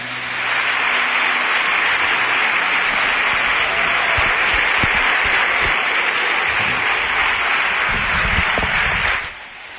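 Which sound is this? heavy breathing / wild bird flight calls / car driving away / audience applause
audience applause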